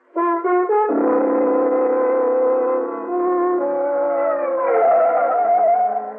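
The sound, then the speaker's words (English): An ambulance siren blares steadily as the ambulance wheels into a receiving yard, a loud, buzzy harmonic tone that steps down in pitch early on, then shifts and rises again near the end. No voices accompany it. “The sound of an ambulance wheeling into the receiving yard below shatters your train of thought.”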